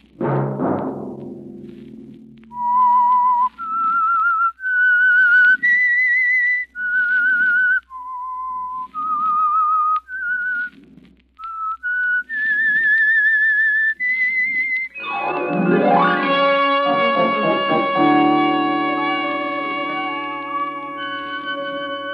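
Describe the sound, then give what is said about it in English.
The whistled theme tune of the radio drama The Whistler: a lone whistle of about a dozen clear, held notes rising and falling over soft low accompaniment, then swelling into a loud, sustained orchestral chord that fades out. “Next Monday at 9 o'clock, the Whistler will bring you another strange tale.”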